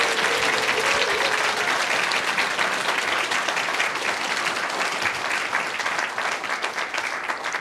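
A church audience claps steadily for several seconds in thanks to the choir's pianist and conductor, a dense, even wash of many hands with no pauses and no voices over it.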